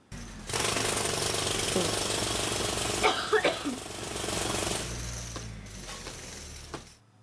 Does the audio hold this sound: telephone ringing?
no